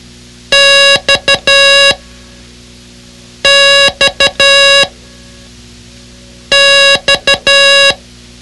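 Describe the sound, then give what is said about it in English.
A steady, buzzy electronic tone beeps Morse code for the letter X, long, short, short, long, three times over with brief pauses between repeats. No one speaks. “Study the X sound-alike card and repeat cross at the door each time it sounded.”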